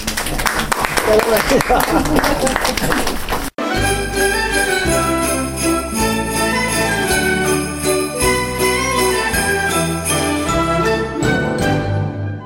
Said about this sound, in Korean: 자, 모두에게 우리 가슴을 두드리면서 박수 주시옵시다.